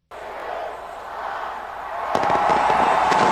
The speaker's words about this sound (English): A massive fireworks display lighted the night sky in Hong Kong